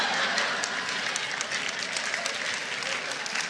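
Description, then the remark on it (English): Steady applause from an audience of women, a dense, even patter of claps that holds at a fairly strong level for the whole few seconds, with no voices standing out. “Now, I noticed the women clapping.”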